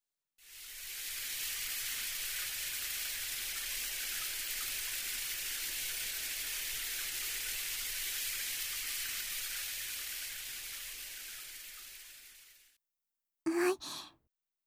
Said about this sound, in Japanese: じゃあ、あとはシャワーで泡を洗い流して。